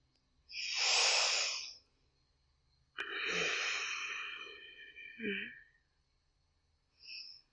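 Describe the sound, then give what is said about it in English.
Slow, deep breathing: a long airy inhale, a pause, then a drawn-out, slightly raspy exhale, followed by the start of another faint breath. No talking. “Just listen to mommy's breathing, okay?”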